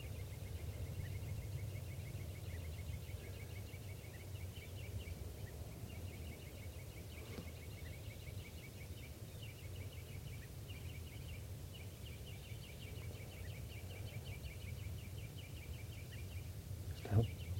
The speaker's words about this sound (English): Recording, the birds are just perched here for a long time, giving alarm calls to each other